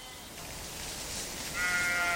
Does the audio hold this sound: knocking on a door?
no